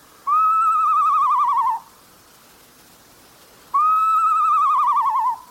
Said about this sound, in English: If it sounds like someone learning to play a recorder, it's a northern saw-whet owl.